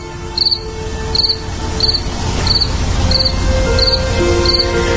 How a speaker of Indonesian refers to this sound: Keadaan di sekelilingku sangatlah sepi. Sampai terdengar bunyi jangkrik mengitariku.